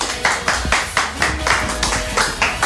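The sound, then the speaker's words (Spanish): Steady rhythmic clapping on a programme, applause for the women who bought tasty things to eat, about four claps a second, fairly loud, continuing evenly throughout with no voices over it. “Un aplauso a las chicas que compraron cosas ricas para comer.”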